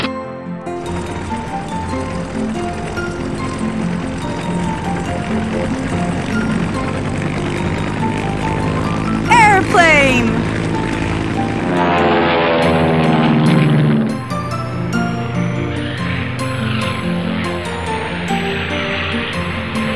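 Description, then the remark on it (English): A steady, droning airplane engine hums throughout, with a couple of swooping pitch sweeps in the middle as if the plane passes by, then settles back to a constant drone. “Airplane.”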